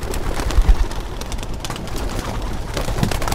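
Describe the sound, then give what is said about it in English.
Pigeons coo softly while a few bursts of wing flapping break out as the birds burst one by one through an opened wire mesh window and take off into the sky, all over a steady, hissy background with no one talking. “and one by one, the birds burst through and take off into the sky.”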